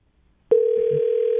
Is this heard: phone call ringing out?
yes